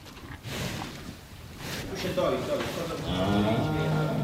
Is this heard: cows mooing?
yes